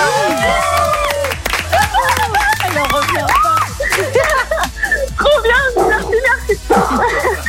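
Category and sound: animal, excited dog barking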